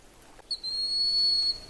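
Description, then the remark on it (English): A broad-winged hawk, watched by the recordist, gives its thin, high-pitched whistled cry: a short introductory note followed by a long, steady, drawn-out whistle over faint background hiss. “I've gotten closer to the broad-winged hawk, and that's that cry sound.”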